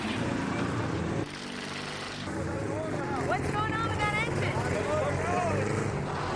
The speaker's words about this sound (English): Could it be that both teams have a dozer dilemma? I think it lost an engine. What's that sound? Is he stuck? Get it started. Come on. It's dead. Or their transmission could be shot.